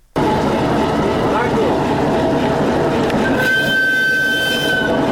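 A freight train of 68 wagons carrying Chinese commercial goods from Urumqi, China, via Kazakhstan and Uzbekistan to the Hairatan trade port in Balkh, northern Afghanistan, rumbles steadily along the rails, loud, a continuous heavy roar with a thin, high metallic squeal rising near the end.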